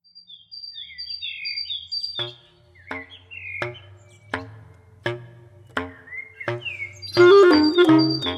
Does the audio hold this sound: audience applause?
no